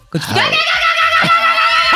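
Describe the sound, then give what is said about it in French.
A voice imitates a herder's call used to summon goats: one loud, high-pitched, drawn-out cry held for nearly two seconds, with no other sounds around it. “Non, ça, ce sont des chèvres qu'on appelle comme ça.”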